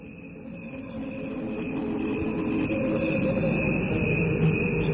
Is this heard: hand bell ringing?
no